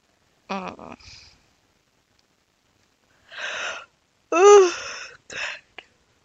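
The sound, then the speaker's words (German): A hearty, drawn-out yawn: a sharp voiced intake, then a long breathy inhale and a loud groaning exhale that trails off into softer sighing breaths, clear with no talking. “Mit zusammengekniffene Äche hebt sie die Hände vors Gesicht und gähnt erstmal herzhaft.”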